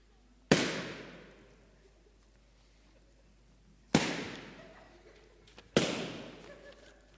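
Balloons are popped one at a time with a knife, three loud sharp bangs at uneven intervals, each trailing off in a ringing decay, with a faint click just before the last pop.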